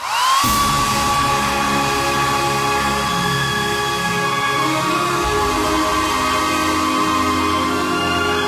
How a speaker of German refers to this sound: Genug, falls mal 200 Models bei Ihnen klingeln und fragen: Dürfen wir uns die Haare föhnen? Dann können Sie sagen: Klar.